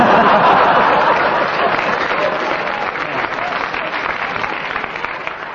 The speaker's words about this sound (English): the round of applause was not so much for what Kenneth said, but the way he acted up the part